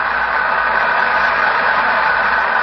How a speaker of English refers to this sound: Listen to the applause. Yes, undoubtedly she'll sing an encore.